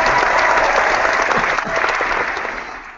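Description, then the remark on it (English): A crowd claps steadily with dense, sustained applause, loud, tapering slightly toward the end. “I just think this needs an applause.”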